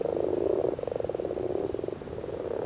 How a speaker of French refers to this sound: Ça y est, on peut dire que la saison a commencé, la saison des batraciens. Là, je suis en compagnie de grenouilles rousses et de crapauds communs. Les crapauds font les crottes, crottes, crottes, alors que les grenouilles rousses roucoulent.